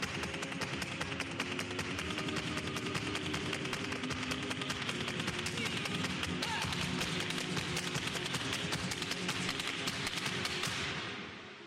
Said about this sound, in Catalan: Veure-la ballar era intensíssim i alhora solemne, perquè a la sala sempre es feia un silenci impressionant. Només se sentien els seus cops de taló sobre la fusta de la tarima.